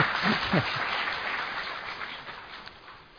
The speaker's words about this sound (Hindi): ताली बजा लीजिए, कोई नहीं।